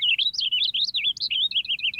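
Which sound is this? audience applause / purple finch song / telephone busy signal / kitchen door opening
purple finch song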